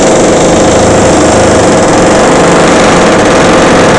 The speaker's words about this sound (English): and as you can hear in the background, there's a little bit of drilling going on in the apartment upstairs. This will go on intermittently all day, starting at 8:30 in the morning and going until 8:30 p.m. at night.